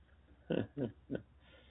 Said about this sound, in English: Man, it's definitely fall out here. This stuff's stopping me up. Can't say two words without sniffling.